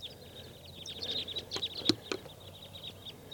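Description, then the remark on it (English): A huge flock of about 20 to 25 crossbills, sounding like type 2, calls repeatedly, with many short, high chirps overlapping in a busy, irregular chatter that rises in intensity midway before settling back to scattered notes. “A huge flock of crossbills is around here somewhere. Sounds like type 2.”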